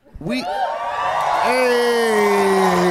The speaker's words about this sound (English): I was just basking in the adoration of the crowd.